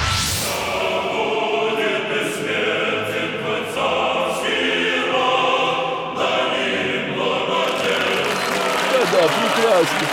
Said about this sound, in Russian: Браво, смотрите, браво, государь аплодирует. И его семья вон там в ложе.